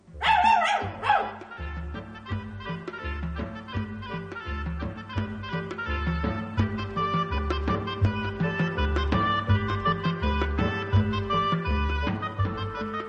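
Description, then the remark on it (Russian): A red dog gives a short, loud burst of barking at the very start, then a steady rhythmic musical piece with a pulsing bass line plays on to the end. “Ну-ка, рыжий пес, умчи нас скорей от этих мест.”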